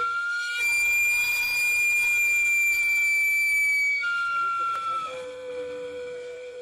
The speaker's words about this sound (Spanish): O en las tardes, cuando uno está ahí, ¿no?, tranquilamente, sin nada, y de repente escuchas el chiflido del de los camotes.